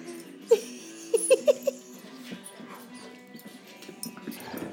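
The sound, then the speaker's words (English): Dogs play-fighting: a single sharp bark, then a quick burst of four yappy barks, followed by low, rumbling growls and scuffling that continue to the end. “Those kids are growling.”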